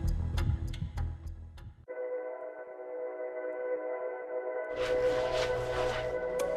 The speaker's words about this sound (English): The clock is ticking, and this Texas college student can feel every second pass like a lifetime.